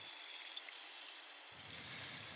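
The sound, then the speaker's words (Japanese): Steady, bright fizzing of bubbles in water, a dense hiss with a few faint tiny pops scattered through it, continuous and even in loudness without any voices. “シュワシュワと弾ける音、なんだか現実から離れたような感覚になります。”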